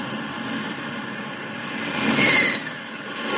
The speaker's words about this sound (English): The jet takes off into the dark. Its afterburner, a comet's tail in the night.